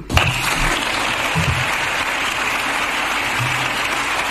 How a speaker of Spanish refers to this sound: Entre esta ovación que escuchan están también los aplausos de Alberto Núñez Feijóo, que ayer estaba invitado a este acto porque reúne a diputados y a senadores. El líder de la oposición aplaudió, se puso en pie, además,